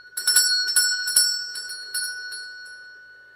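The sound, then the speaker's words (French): A small hand bell is shaken in a quick series to call people who do not come, bright metallic tones clanging several times, then gradually fading and slowing as the ringing trails off. “Ils n'entendent point, et ma sonnette ne fait pas assez de bruit.”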